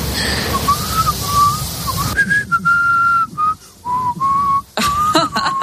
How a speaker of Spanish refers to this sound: Mejor o peor, oye, todos alguna vez hemos silbado.